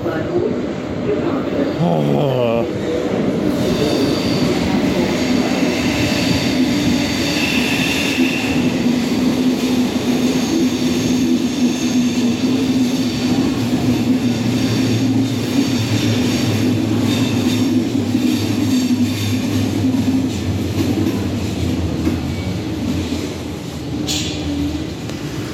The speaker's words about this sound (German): Das ist der Zug, der da jetzt gerade gegenüber eingefahren ist.